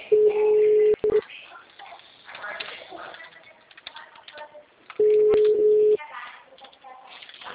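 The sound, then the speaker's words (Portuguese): A telephone ringback tone as a phone call is placed: two steady, low-pitched one-second beeps spaced about four seconds apart, with people talking quietly in the gap between them. “Vamos fazer a ligação.”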